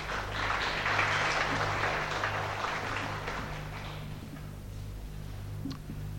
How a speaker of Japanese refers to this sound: 皆様拍手でお迎えくださいませ。